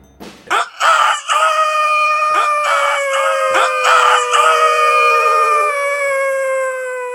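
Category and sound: bird, rooster crowing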